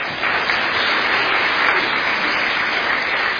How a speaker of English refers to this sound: So thank you very much, and you can give yourselves a wee round of applause as well now.